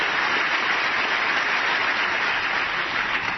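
Steady, dense applause from a crowd, a continuous wash of many hands clapping at even loudness throughout, with no voices standing out.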